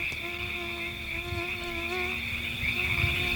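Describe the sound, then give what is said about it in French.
A steady, high-pitched whine of mosquitoes buzzing, continuous for the whole stretch, with a thin insect-like drone layered over a faint low rumble and no voices. “Parce que le Maryland, où elle naît vers 1822, c'était des marais, donc des moustiques et des rats.”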